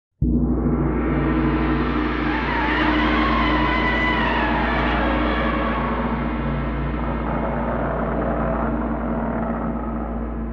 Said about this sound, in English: All right, got to limber up here real quick. Got my mallet in hand, my gong mallet in hand. I'm winding up.